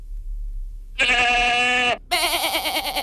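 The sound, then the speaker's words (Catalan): Rasquera white goats, a protected native breed, from a herd of about 200 grazing to keep down the undergrowth in the Baix Montseny, Vallès Oriental, bleat loudly: one long harmonic call followed after a brief pause by a second wavering, quavering bleat, with no talking over them. “Són exemplars de cabra blanca de Rasquera, que és una raça autòctona protegida.”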